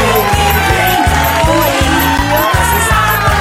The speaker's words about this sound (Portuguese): Cadê os aplausos?